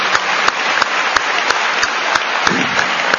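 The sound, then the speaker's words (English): Steady, dense applause from a crowd for all the employees of Radio Sai, with many hands clapping continuously at an even, loud level and a few sharper claps standing out through the whole stretch. “And I therefore request everybody present here to raise their hands together and give a lusty round of applause to all the employees.”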